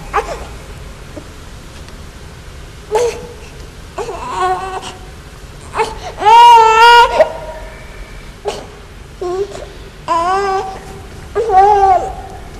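A baby cries in repeated wailing bursts that will not be quieted, rising and falling in pitch, with the loudest, longest wail in the middle and shorter sobs after, over a quiet background.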